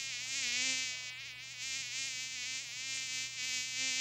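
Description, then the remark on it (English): A continuous mosquito whine drones steadily for the whole stretch, its pitch wavering slightly as it hovers, with no voices present. “Enjoy a night of restful sleep with Raid Liquid Electric Mosquito Killer.”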